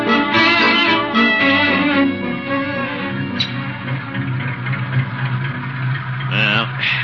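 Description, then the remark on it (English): A car engine runs steadily after starting, having been flooded that morning, a continuous mid-pitched rumble with a low hum and some rising and falling tonal layers on top, fairly loud throughout. “car's running all right now. Guess it was just flooded this morning.”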